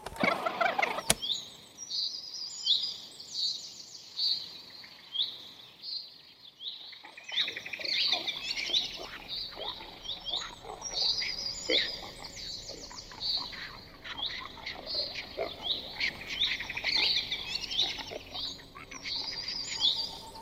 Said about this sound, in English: After trying the recorder on himself, he went outside to record some birdsong. But when he played it back, he heard something unusual.